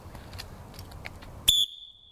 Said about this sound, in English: And so this is my old, dirty old pea whistle that I've been using for years and years and years, all right?